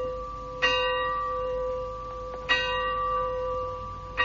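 A single bell tolls slowly as a knell in a scene from Shakespeare's Macbeth, three strikes spaced about two seconds apart, each ringing out with a long, humming resonance that lingers between blows. No voices accompany it.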